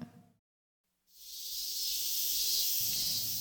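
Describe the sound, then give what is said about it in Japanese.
After a brief low thud and a second of silence, a chorus of cicadas swells in, heard while walking to school: a dense, steady, high-pitched buzzing drone that stays loud to the end, with a soft low rumble beneath. “私はセミの合唱を聞きながら流れる汗を拭きつつ、流行る気持ちを抑えて足早に学校に向かった。”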